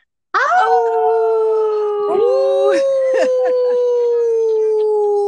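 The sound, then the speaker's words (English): Several people howl together in imitation of a wolf pack, a loud sustained chorus of long, gradually falling tones lasting several seconds, with a brief exclamation mixed in near the start. “We got to give our best Wolfpack howl.”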